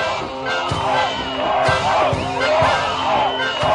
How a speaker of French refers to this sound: Écoutez cette rumeur qui nous devance, ce brouhaha, cette foule haletante.